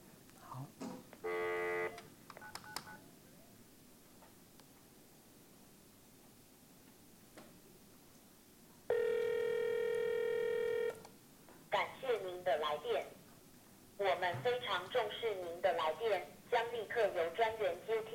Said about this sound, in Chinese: 有没有电话来了？有没有？他可以不接，啊、哦，他现在忙碌，他不接，他忽略，